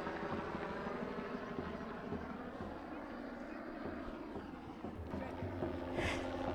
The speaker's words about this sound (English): Helicopters are overhead.